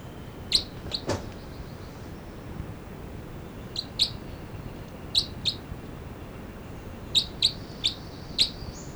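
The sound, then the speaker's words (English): Short, high-pitched calls and chitter from two birds numbered 305 and 306, 305 being the male, come in quick pairs and small clusters, sharp chirps repeating irregularly over a steady low background hiss, with no talking. “305 and 306 here, and these are calls of it's 305 and 306.”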